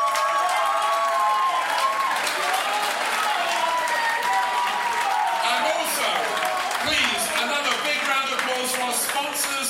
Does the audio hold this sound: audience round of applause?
yes